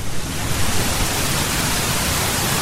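waterfall rushing water

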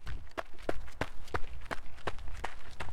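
footsteps of people running

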